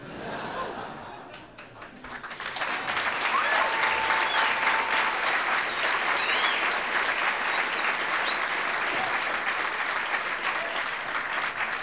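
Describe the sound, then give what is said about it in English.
An audience breaks into steady, loud applause after a brief quieter moment, the dense clapping holding strong for about ten seconds with a few whistles and scattered chuckles mixed in. “The applause was perfect.”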